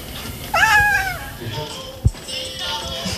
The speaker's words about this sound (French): Elle arrive à parler au chat. Fais un miaou. Miaou.